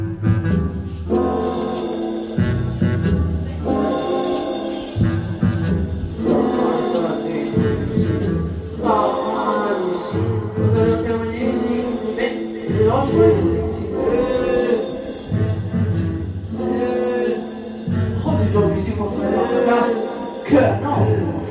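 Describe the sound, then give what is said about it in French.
A short musical loop made by a musician repeats steadily every couple of seconds, with a thumping low bass pattern and sustained mid tones, while a wordless, moaning voice sings along over the top, repeating with the loop. “Voilà, ça fait un moment que la boucle faite par un musicien tourne.”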